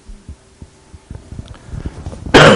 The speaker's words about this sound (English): Pardon me, got this little cough going.